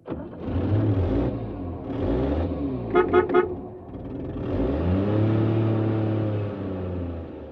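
A car carrying a family to a village revs and accelerates in repeated rising surges, with a brief burst of horn toots in the middle, fairly loud, with no voices.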